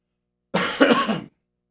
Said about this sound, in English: told me to cough, which helped a little bit. Okay. I get these heart palpitations, and then I feel a rush of blood go into my head.